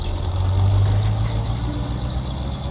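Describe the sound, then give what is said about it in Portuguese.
A getaway car engine idles steadily by a prison at night, a deep continuous rumble with a faint rattling knock, holding at the same level for the whole short stretch with no voices. “Sem que ninguém dê o alarme, o grupo alcança o carro de fuga.”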